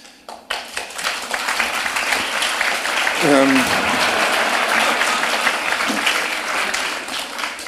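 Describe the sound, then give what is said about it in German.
Sustained, dense applause from an audience after a Bach performance, a steady wash of many hands clapping that swells after the first second and holds loud throughout, with a brief voice surfacing midway. “Dass das gelungen ist, bestätigt dieser Beifall und auch diese vielen wunderbaren Aufnahmen von Ihnen in den letzten 40 Jahren jetzt.”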